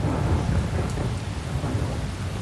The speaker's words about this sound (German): Ein Junitag in Jena. Es regnet in Strömen.